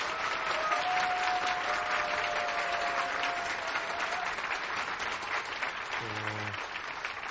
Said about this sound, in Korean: 우리 박수 한번 쳐주십시오.